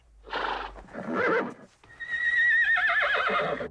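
A horse lying in a bed beside a woman neighs in two short bursts, then lets out a long, high, wavering whinny that trembles and fades. The sounds are loud, with no talking over them.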